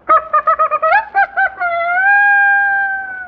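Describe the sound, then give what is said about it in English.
A saxophone imitates a rooster crow: a quick run of about eight short, choppy honks, then one long, loud, sustained note that bends slightly upward and holds. No one speaks. “Flap tongue. the rooster.”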